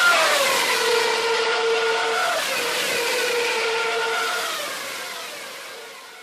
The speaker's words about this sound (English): So just to give you a little bit of comparison here, first, here's what a 2013 Formula One engine sounded like.